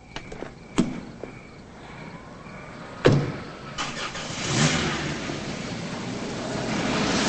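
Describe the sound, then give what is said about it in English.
A few sharp knocks and clunks as a woman gets into her car at dawn, then the engine turns over and the car drives away, its broad rumbling whoosh rising and lingering. No one speaks. “She jogs to her car and gets in.”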